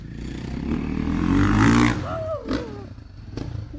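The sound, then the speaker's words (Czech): A rider warms up a motorcycle before doing jumps; the engine rumbles low and steady, swelling briefly in loudness before easing off, with a few short higher-pitched sweeping tones and clatter toward the end. “zahřívá motorku a sám sebe a slíbil tedy, že něco ukáže a já se jdu na ty jeho skoky dívat s jeho tatínkem”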